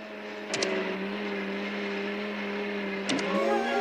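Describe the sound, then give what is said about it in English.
A lidded blender switched on whirs steadily, whizzing up a mixture with off-green gelatinous stodge ladled in, its motor holding a constant hum with a gritty churning texture, bracketed by brief clicks near the start and end. “He switches it on, and the blender whizzes up the mixture.”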